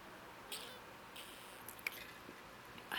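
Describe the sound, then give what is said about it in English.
Someone drinking water, with a few soft, wet gulps and small mouth clicks spaced out over a quiet background, and no talking. “During rambles, I want to drink water so bad, but, like, the sound of this kind of ruins the mood.”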